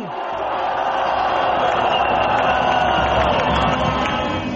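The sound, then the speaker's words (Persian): Thousands of people celebrating the prime minister's resignation in the central square of Yerevan, Armenia, with car horns and music, cheer and shout continuously in a dense, steady roar of many voices, with no single voice standing out and the loud din holding at an even level. “قبل از سخنرانی او در میدان مرکزی یریوان، هزاران نفر استعفای نخست وزیر را با بلند کردن سیگنال ماشین ها و موسیقی تجلیل کردند.”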